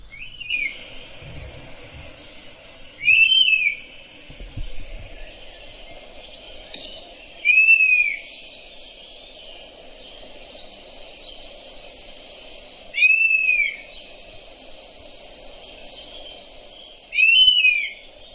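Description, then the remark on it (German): A played recording of a European honey buzzard giving a series of plaintive, whistled calls, about five of them spaced irregularly and fairly loud, over a steady background hiss with no talking. “Jetzt lasse ich noch einmal den Wespenbussard rufen, dass wir auch alle wissen, wie er sich anhört, damit, wenn wir ihn dann sehen, das auch...”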